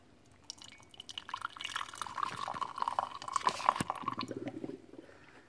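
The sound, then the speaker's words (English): Freshly brewed hot coffee from a French press pours steadily into a cup for several seconds, a bubbling, gurgling liquid stream with small clinks, the pitch rising as the cup fills, then tapering off. “Pour my freshly brewed coffee into my coffee cup.”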